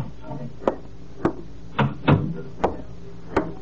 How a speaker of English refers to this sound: That was why he left his drafting table this Thursday afternoon, adjusted his tie nervously, took one last long puff at his cigarette, inhaled the smoke, let it out in a deep sigh, and knocked on the door to Mr. Collins' office.